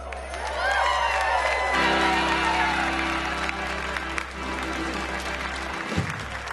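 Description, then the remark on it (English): An audience bursts into sustained applause with scattered cheers and whoops after a Christmas song, applauding the jingle bell ringer and the band. A steady wash of clapping holds loud throughout, while a low instrumental hum lingers underneath. “Let's hear it for our jingle bell ringer.”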